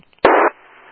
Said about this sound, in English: I'm using regular radio, but it seems like the Zelda machine has an open carrier. Somebody's, like, keying it down.